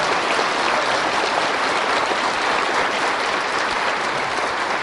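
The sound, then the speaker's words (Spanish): Sustained audience applause after a retelling of Jesus' miracle of raising a dead man, a dense, steady wash of many hands clapping at an even, fairly loud level for about five seconds, with no voices standing out. “Ahora que ya aplaudimos, ahora me hacen el favor de entristecerse.”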